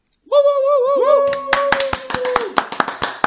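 A quick burst of hand claps, about ten sharp slaps in an uneven rhythm, begins partway through, overlapping a high, wavering whine-like tone that starts first and fades out.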